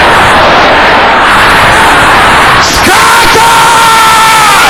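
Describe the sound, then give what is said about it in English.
A large crowd loudly shouts a prayer together in the name of Jesus in a sustained, dense roar, voices merging into one continuous wall of sound that swells briefly near the end with a higher yell. “Can I hear you shouting this loud and clear?”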